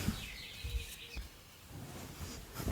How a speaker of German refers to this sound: Übrigens höre ich die ganze Zeit bei dir so einen scheiß Vogel piepen, ne? Der wird die ganze Zeit auf der Aufnahme sein.